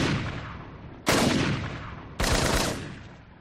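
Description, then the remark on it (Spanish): Three loud rifle gunshots, fired from behind a telescopic sight, ring out roughly a second apart, each a sharp crack followed by a long, rolling echo that fades before the next shot. No voices. “Él recibió un tiro en la pierna y cayó al suelo, pero a partir de ahí los disparos fueron indiscriminados.”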